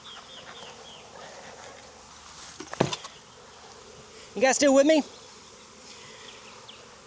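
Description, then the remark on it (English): A dense, steady hum of many honeybees buzzing from a just-opened beehive, with a person's brief question heard over the swarm partway through. “This was the one that kind of buzzed the most when I opened it.”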